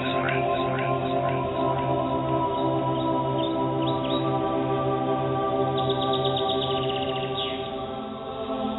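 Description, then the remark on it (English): Birds sing in scattered bursts of quick chirps and trills, layered over a steady, sustained drone of soft ambient music that holds throughout at an even level. “You hear birds singing.”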